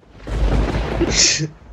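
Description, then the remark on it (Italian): A short burst of thunder sound effect, a loud rumbling boom that swells quickly and fades within about two seconds, with a brief crackling hiss near the end. “ti fulmino con questo tuono.”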